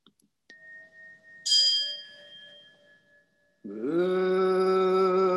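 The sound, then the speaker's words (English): A bell rings with a long, steady hum, then a brighter bell strike shimmers and fades before the deep voices of the Japanese leaders of the host sangha begin a sustained, droning chant in unison. “You hear bells and chanting?”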